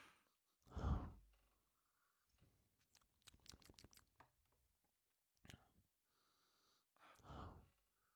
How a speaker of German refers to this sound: Bisschen schnüffeln und schnaufen auf der Aufnahme macht sich immer gut.